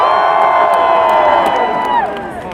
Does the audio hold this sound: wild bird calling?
no